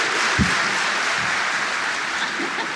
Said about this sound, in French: On a applaudi les couilles d'un gars.